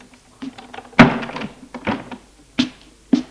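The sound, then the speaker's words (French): A door swings shut with a solid thunk, followed by a few softer knocks and bumps, then two sharper taps near the end; no one speaks. “Et elle ferme la porte.”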